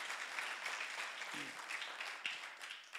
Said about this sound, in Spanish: Put your hands together and give God praise. Dense un gran fuerte aplauso.